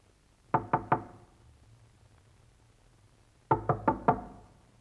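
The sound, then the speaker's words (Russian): Knocking on the door of Ivan Fyodorovich's room in the corridor of an engineering and technical workers' dormitory: a quick set of three raps, a pause, then four more raps in a slightly faster series. The knocks are clear, with no talking. “Она не смело подходит к одной из дверей. Это дверь в комнату Ивана Федоровича.”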